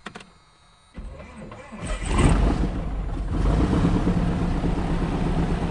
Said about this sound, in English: Yell clear. There's nobody standing in front of us, and we're going to start the engine. You ready? Clear.